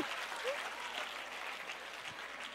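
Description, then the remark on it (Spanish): An audience applauds steadily, a dense wash of clapping hands that holds at an even level for a few seconds without voices rising above it. “Si usted quiere, aplaude.”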